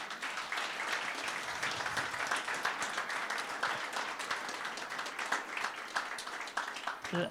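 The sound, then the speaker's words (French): A church audience applauds, a dense, steady wash of many hands clapping for about seven seconds at an even level, with faint voices mixed in. “J'aimerais qu'on les applaudisse.”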